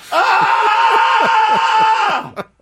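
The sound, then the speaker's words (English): A loud, sustained guttural scream from one voice, strained and raspy, holding for about two seconds before cutting off abruptly, followed by a quick breathy exhale; a scream over looking like a buffoon on a baseball field. “That's a guttural scream from looking like an absolute buffoon on a baseball field, man.”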